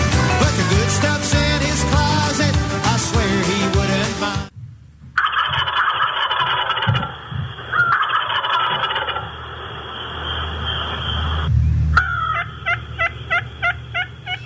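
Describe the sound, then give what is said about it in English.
After a few seconds of music, a turkey gobbles in loud, rapid warbling bursts that repeat several times, sounding thin and slightly muffled. “Speaking of turkeys, I think we have one on the line with us right now.”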